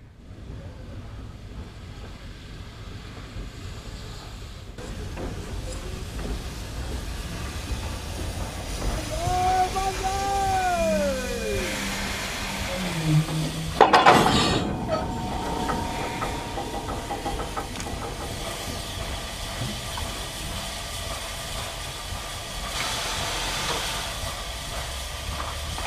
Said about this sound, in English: Once the workers are discharged, the locomotive cuts off the train and shunts back onto the waiting hopper wagons.